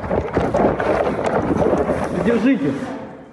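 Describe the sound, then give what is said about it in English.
Water splashes and hisses onto a burning voting booth at a Moscow polling station as an onlooker tries to douse the flames, a steady, rushing wash of noise with excited voices talking and a raised voice near the end. “An onlooker tries to douse the flames with water.”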